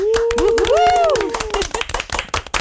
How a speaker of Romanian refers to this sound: Oameni buni, hai să vedem. În primul rând, astăzi începe Gaudea Amos. Aplauze!